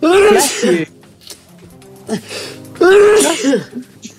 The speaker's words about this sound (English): Sneeze, sorry.